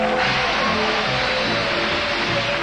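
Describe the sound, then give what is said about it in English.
The Price is Right train, loaded with prizes for a game show showcase, rolls into the train depot. Its loud, steady mechanical rumble fills the scene, with a rhythmic low clatter underneath and a faint whining tone running throughout. The first car pulling in carries a new dining set. “And here she comes now, loaded with prizes.”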